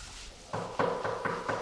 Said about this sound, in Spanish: Cuando oyó pasos que se acercaban, se inclinó hacia adelante, tenso y expectante, aguardando con ansiedad a que llamaran a la puerta.